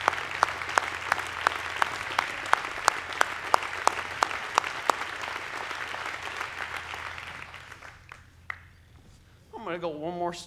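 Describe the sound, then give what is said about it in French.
An audience applauds steadily for several seconds, with some sharper individual claps standing out, before the clapping fades and a voice begins speaking. “Nous sommes élevés pour applaudir.”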